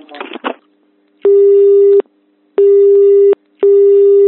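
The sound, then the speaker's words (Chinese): A steady telephone busy tone as a reporter calls Qinghai Westt Copper Co., Ltd. again and the call goes unanswered: three evenly spaced, loud beeps of under a second each, separated by short silences, after a brief burst of muffled noise at the start. “之后记者再次拨打电话，但对方一直拒绝接听。”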